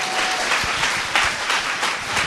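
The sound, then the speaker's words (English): A crowd applauds steadily for a pastor as he comes up, with dense, rapid clapping that stays loud and even throughout, the individual claps blurring into a continuous wash of sound. “And if you agree with that, let's give a big clap to”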